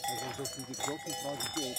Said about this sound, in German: Zum Almabtrieb, da haben die Kühe natürlich ihre Festtagsglocken dran, aber auch nicht alle, sondern nur die Führungskuh oder ein paar Führungskühe. Ansonsten sind es normale große Glocken,